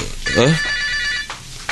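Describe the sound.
A telephone rings with a steady, high electronic trill that continues throughout, clear, while a brief human voice is heard near the start.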